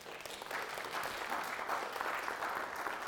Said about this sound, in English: humanly speaking, give her a wee round of applause for playing for us.